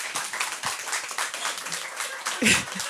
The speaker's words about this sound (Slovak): Přátelé, takhle mu zatleskejte rozhodne.